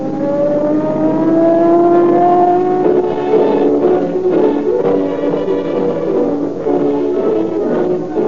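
Loud car engines roar and rev continuously for several seconds, their pitch rising and shifting as they accelerate, with a whining, siren-like tone layered over the rumble. No one speaks.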